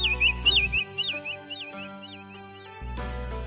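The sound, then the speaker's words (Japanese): A sparrow with a broken hip chirps sadly in the grass at the corner of a garden, in a quick series of short, thin tweets, clear, repeating throughout over a soft, sustained musical background. “ある朝心優しいおばあさんがほうきで庭を掃いていますと、庭の隅の草むらでチッチッと悲しそうに鳴くスズメがいました。”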